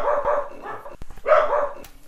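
A dog makes two drawn-out barking or yelping bursts, with a few short sharp clicks and snuffles between them, fairly loud with no talking.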